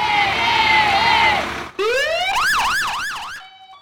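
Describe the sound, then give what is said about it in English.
A loud siren on the city fire truck in Wrangell, Alaska, parading the high school volleyball team, holds a high, steady wail, then breaks into a rising sweep and a fast, repeating up-and-down whoop before cutting off. “But it is actually a huge accomplishment for the high school, and the students are celebrating by putting the team on the city's fire truck and parading them around for the afternoon.”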